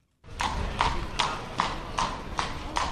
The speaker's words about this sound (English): A horse and carriage clatters through a square lined with orange trees.